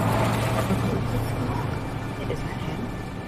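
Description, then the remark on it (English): A black ride-hailing car's engine rumbles with a steady, low droning hum that eases slightly as the car pulls up to the curb, parks and idles. “The black net car pulls up to the curb and parks.”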